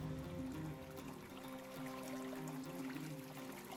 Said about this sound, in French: Au bord du terrain de la maison où j'ai grandi, coule un petit ruisseau.